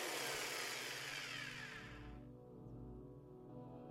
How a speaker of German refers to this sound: Und wenn ich meine Kettensäge ausschalte, klingt das so.